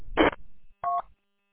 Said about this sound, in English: There goes my phone's ringing.